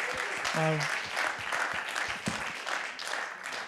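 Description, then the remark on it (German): A crowd applauds steadily to thank someone for sharing, dense clapping throughout, with a brief voice or whoop rising over it early on. “Ich gebe einen grossen Applaus.”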